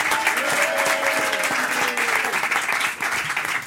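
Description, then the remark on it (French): A dense wash of audience applause for comedians Alexandra Pizzagalli and Alex Ramirez, many hands clapping steadily, sustained throughout with faint voices and cheers mixed into the crowd noise. “On applaudit Alexandra Pizzagalli et Alex Ramirez.”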